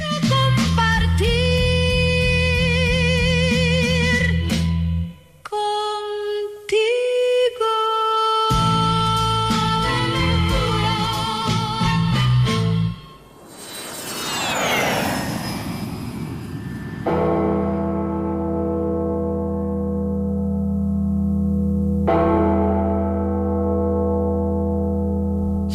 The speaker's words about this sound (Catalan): No us exciteu, que no són ses campanades, encara. Bé, sí que ho són, però aquestes són ses campanes de l'infern, en realitat.